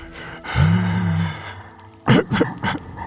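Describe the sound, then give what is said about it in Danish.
A voice imitates the snoring of a giant that has quietly fallen asleep: a long, low, rumbling inhale, then a few breathy, puffing exhales in quick succession, fairly loud. “du kan nu høre, at kæmpen stille og roligt er faldet hen. Han snorker.”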